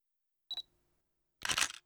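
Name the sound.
camera shutter click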